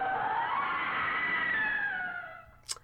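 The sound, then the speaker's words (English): A person lets out a long, loud, high-pitched scream that holds steady, slowly drops in pitch and fades away, followed by a single brief click. “That was a scream.”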